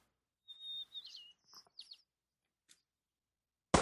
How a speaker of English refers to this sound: I hear birds.